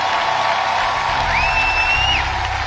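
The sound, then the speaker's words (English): An audience at a church service claps and cheers in a steady, dense wash of noise, with a single high whoop or whistle rising and holding briefly in the middle. “Clap your hands, all you people.”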